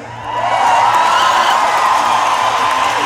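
A large audience bursts into sustained applause and cheering for a performer, a dense wash of clapping and whoops that swells quickly and stays loud and steady throughout.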